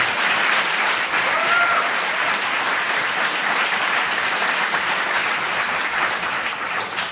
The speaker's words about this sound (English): So another round of applause for our guest tonight.